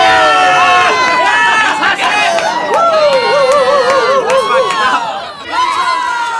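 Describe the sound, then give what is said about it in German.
A dense crowd of hundreds of spectators at a beach volleyball world championship, packed behind a barrier in the sand, roars and shouts continuously to cheer on their favourites, many voices overlapping in loud, excited cheering with rising and falling yells, dipping briefly before surging again near the end. “Hunderte halbnackter Körper saßen dicht gedrängt hinter der Absperrung im Sand und brüllten sich die Seele aus dem Leib, um ihre Favoriten anzufeuern.”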